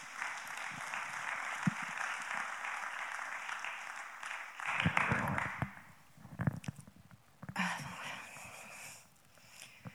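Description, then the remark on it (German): Audience applause welcoming a speaker to the front, steady clapping from a crowd that swells briefly midway before thinning out and trailing off into scattered claps near the end. “Und wir heißen sie mal mit einem herzlichen Applaus hier vorne willkommen.”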